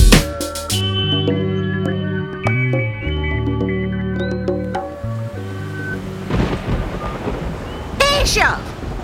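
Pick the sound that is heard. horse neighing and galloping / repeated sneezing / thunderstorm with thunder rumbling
thunderstorm with thunder rumbling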